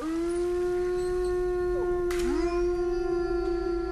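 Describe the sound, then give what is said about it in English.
A wolf howls in one long, steady, mournful note, joined midway by a second howl that dips and rises before blending in. The sound is loud and clear, with no talking. “Of course, the king of them all would be the wolf, wouldn't it?”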